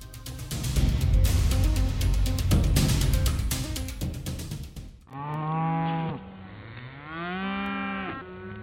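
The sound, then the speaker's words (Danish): Cows moo loudly over a busy barn din for several seconds, then two long, drawn-out moos stand out clearly, each rising and falling in pitch. “Lidt på samme måde som landmandens køer er højlytte, når de vil malkes”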